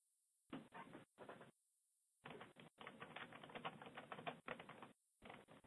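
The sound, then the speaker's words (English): Bursts of rapid keyboard typing, dense clicking clusters separated by short pauses, clear with no voices present. “You're typing. I hear typing, too.”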